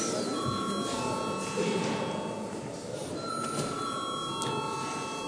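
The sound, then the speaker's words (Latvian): A parliament bell rings without a break for about five seconds ahead of a vote on amendments to the law on social security: a steady, high, metallic electric ring over a low murmur of voices and shuffling. “Paldies, lūdzu zvanam.”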